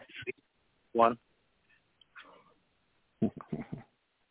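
A pet bird squawks in a few harsh, nasal bursts separated by short pauses, with a quicker cluster of squawks near the end.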